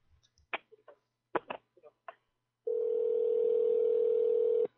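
A few sharp clicks and clatters of a handset being handled, then a loud, steady dial tone hums continuously for about two seconds before cutting off.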